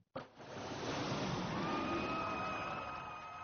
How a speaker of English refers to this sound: I don't know about you, but I want to see that jet fly by again. That was neat.